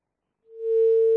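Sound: phone line tone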